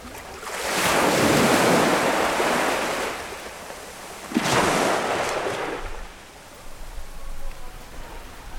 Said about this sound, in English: Okay, so we were going to go and get some lovely salty sea sounds down by the pier